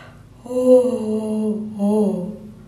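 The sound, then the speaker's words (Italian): A person imitates a hippopotamus stretching and yawning: two drawn-out, rising then sagging vocal groans, fairly loud, with a brief breath between them and no words. “Si rilassò, sbadigliò, chiuse gli occhi e sogni d'oro.”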